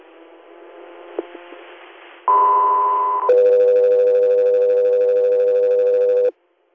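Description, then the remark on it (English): Radio dispatch alert tones: after a couple of seconds of crackly static, a loud steady high tone sounds for about a second, then drops to a lower sustained tone for roughly three seconds before cutting off. “Got 3 air, stand by for tones.”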